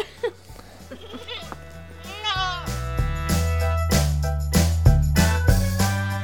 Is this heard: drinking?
no